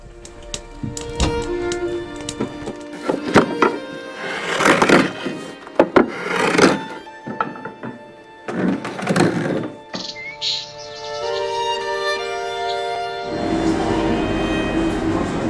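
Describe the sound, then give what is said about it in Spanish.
Wood being cut in a series of loud, rasping bursts with pauses between them, while birds sing softly in the background with a few brief high chirps. No one speaks. “Aquí tenemos sonidos de madera cortándola, pájaros que están cantando de fondo.”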